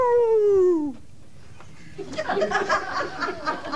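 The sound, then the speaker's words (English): A voice imitates a dog's howl with a single drawn-out, falling wail lasting about a second. After a short pause, bursts of laughter follow. “And the guy finally says, what's the deal with that dog? Why is he howling?”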